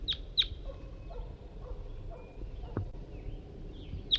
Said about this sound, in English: Just got out here a few minutes ago, set up the net, and I've only got bird 5-3 with me, and that's him calling right there.